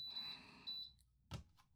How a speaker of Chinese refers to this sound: 那我就要开始计时咯。计时器